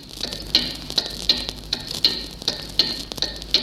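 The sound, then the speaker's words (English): A steady, clock-like ticking, the clock tuning signal of a shortwave station directed towards Germany, first aired in November 1940, repeats about twice a second over a hissing, crackly shortwave static background, with a faint high tone running through it. “On November the 10th, 1940, its clock tuning signal first appeared on shortwave.”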